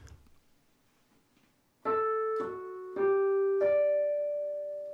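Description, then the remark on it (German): A telephone rings with a short melodic tune: four clear, sustained electronic tones in quick succession, A, F-sharp, G, then a fifth up to D, the last one jumping higher and ringing on after a quiet moment. “Bei diesem Telefon habe ich die Quinte gefunden.”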